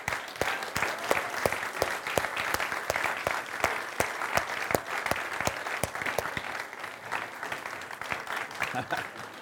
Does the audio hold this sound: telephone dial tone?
no